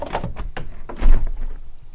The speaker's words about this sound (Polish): Patrz, jaki śliczny świt. Otwórzmy okno.